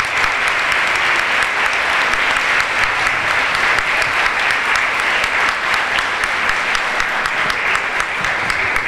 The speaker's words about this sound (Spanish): Gracias, gracias por ese aplauso, porque se lo merece la escuela, se lo merece la directora, que la tenemos por ahí sentada, se lo merece todo su cuerpo docente.